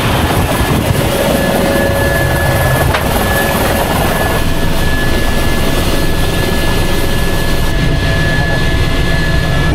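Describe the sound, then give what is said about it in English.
A helicopter used for landing on Wolf Rock Lighthouse gives a loud, steady rotor and engine roar that fills the whole recording, dense and continuous with a faint high whine running through it, unbroken. “So we'll land on by the helicopter, we'll open up one of the hatches, and we'll climb down and lower all of our gear down with it at the same time.”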